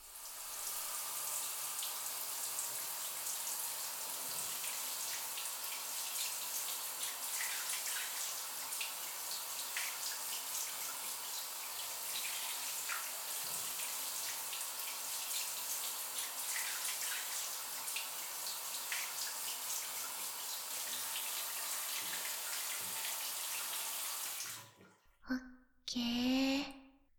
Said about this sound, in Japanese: シャワーで流すね。